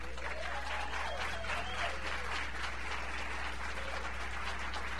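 An audience applauds steadily to welcome a guest from the Christian radio station KSBJ to the pulpit, a dense, even wash of many hands clapping at constant loudness, with a low hum running underneath and no voices standing out.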